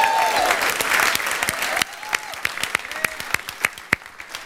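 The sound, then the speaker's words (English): An audience breaks into applause, a dense wash of clapping that gradually thins into scattered, individual claps as it fades out. “You really need to applaud her.”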